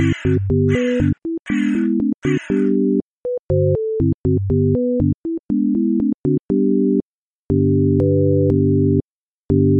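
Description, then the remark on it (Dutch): Four harsh, rasping crow caws ring out in quick succession at the start, then give way to a run of steady electronic beeping tones that continue to the end. “Maar op een dag vond een dorstige kraai een kruik met daarin een beetje water.”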